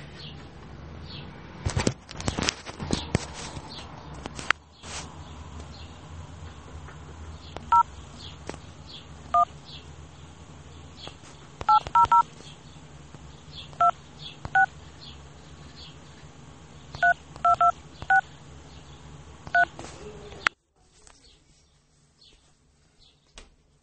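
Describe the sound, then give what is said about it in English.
Touch-tone phone dialing a call to BMO Bank of Montreal: a string of short, clear keypad beeps tapped out in quick bursts over a low background hum with faint chirping, then the line goes quiet. “I'm on the phone.”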